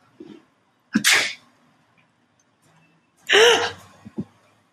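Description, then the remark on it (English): A person fakes two loud sneezes at a cat a couple of seconds apart to scare it away, each a sharp breathy burst, the second followed by a brief short exhale. No speech. “You have to pretend to sneeze on him.”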